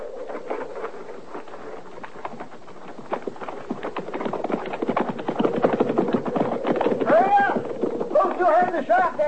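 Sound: horse hooves clip-clopping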